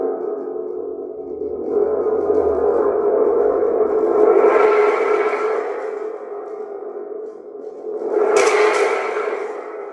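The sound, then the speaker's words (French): A thunderstorm breaks overhead with torrential rain falling on a village: a steady roar of heavy rain and rumbling swells through the whole clip, building to a loud thunderclap with a sharp, bright crack near the end. No voices are heard. “Un orage éclata juste au-dessus de sa tête.”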